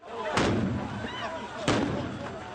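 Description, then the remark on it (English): Two sharp, loud gunshots about a second apart, Israeli forces firing at pro-Palestinian protesters at the border with Syria in the Golan Heights, ring out over a steady murmur of crowd noise and indistinct voices. “Israeli forces fired at pro-Palestinian protesters on its border with Syria.”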